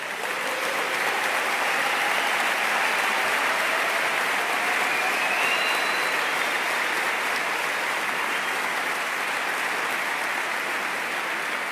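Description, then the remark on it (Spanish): Sustained, dense applause from a large audience for a choir, a steady wash of clapping that holds at the same strong level for about twelve seconds without pause. “También os pido un aplauso para todo el coro.”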